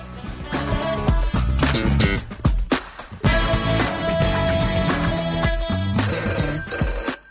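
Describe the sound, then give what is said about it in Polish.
A telephone rings loudly and insistently for an incoming call, its bright bell tones pulsing in rapid repeated bursts for several seconds with no one speaking. “Teraz odbieramy kolejny numer telefonu.”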